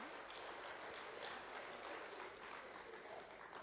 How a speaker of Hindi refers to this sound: आप ताली किसके लिए बजा रहे हो ये बताइए। अच्छा अपने नहीं बजा रहे हो, दिस इज इंटरेस्टिंग।